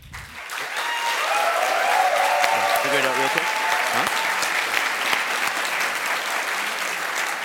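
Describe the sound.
A large audience claps steadily for several seconds, a dense, loud wash of applause that rises quickly and holds, with a few faint voices and cheers mixed into the crowd noise, for Team SmartArm after their pitch before judges.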